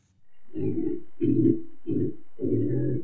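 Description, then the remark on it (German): A pig grunts in distress after being led into a completely empty room with the door locked, running from wall to wall: four low, rough, guttural grunts in a steady rhythm, each lasting about half a second, fairly loud and with no voices. “Es klingt, als wäre das Schwein unzufrieden oder gestresst oder verzweifelt.”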